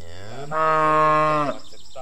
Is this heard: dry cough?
no